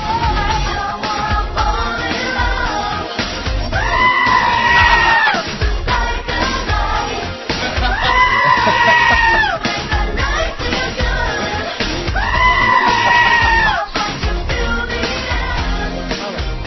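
An upbeat pop song plays loudly, with a bleating goat scream cut into it three times, roughly every four seconds, each wavering cry rising above the music for about a second or two.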